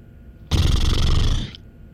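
A single loud lip-flapping sound, not quite a raspberry, lasting about a second: a rough, fluttering buzz of air through loose lips that starts abruptly and cuts off, with no talking.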